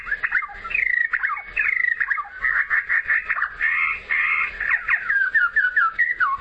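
A bird sings a continuous, rapid song of chirps, trills and sliding whistled notes, clear, with no voices.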